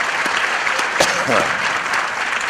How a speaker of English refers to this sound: we are here again live at the Northeast Conference on Science and Skepticism. Give everyone at home a round of applause.